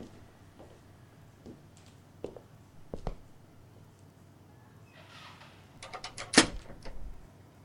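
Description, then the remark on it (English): A few scattered soft knocks, then a burst of sharp metallic clicks and rattles as a door lock is turned, one crisp snap standing out, in otherwise quiet surroundings. “Oh, you locked the door.”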